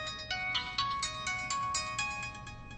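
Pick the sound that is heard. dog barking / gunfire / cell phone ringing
cell phone ringing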